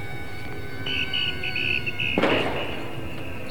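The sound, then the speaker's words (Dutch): A glass bottle drops and shatters in one sharp, bright crash with a brief scattering tail, set against steady outdoor crowd noise in Amsterdam on a misty Saturday afternoon and a high whistle-like tone just before the break. “Nou, dat is een fles die stuk valt.”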